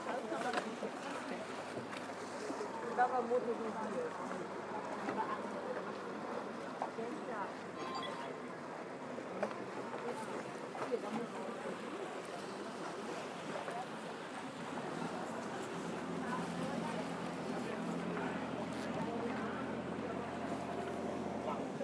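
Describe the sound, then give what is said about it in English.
A small rowing boat sits out on the water with people sitting on the edge of its side, steady lapping and splashing around the hull, a low wind-like rush, and people talking throughout. “Okay, it's like a rowing boat, so yep.”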